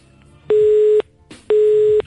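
A telephone busy signal after the other party hangs up a call: two loud, steady electronic beeps, each lasting about half a second with equal gaps of silence between them, over faint background hiss.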